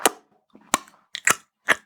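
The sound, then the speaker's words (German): A voice imitates wet smacking squelches with four sharp bursts spaced irregularly, the last two louder and juicier, with short silences between them, the sound made as someone is gripped under the arms and pulled. “Und dann macht es ein schmatzendes Geräusch.”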